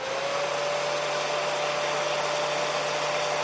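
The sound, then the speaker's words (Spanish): A hair dryer blows steadily in a hair salon, a loud continuous whoosh of air with a faint motor whine, running unbroken throughout with no voices. “Nunca el ruido de un secador de pelo, ¿verdad?, nos había proporcionado pues tanta alegría.”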